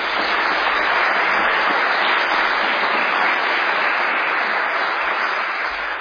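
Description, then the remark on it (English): A crowd in Australia applauds a visiting minister steadily for about six seconds, a dense, even wash of many hands clapping at a constant loud level with no voices heard. “If you could also give him a round of applause.”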